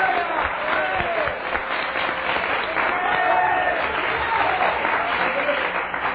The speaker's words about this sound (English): Clap your hands and worship the Lord.